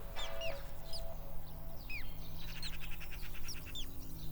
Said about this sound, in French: Dans le jardin, tout est calme. On entend les oiseaux chanter.